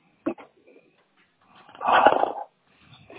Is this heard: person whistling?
no